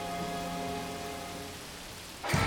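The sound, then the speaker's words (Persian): Steady rain falls throughout, a dense hiss with a low tonal hum underneath, then a louder, fuller burst of rain at the very end. “بارون گره.”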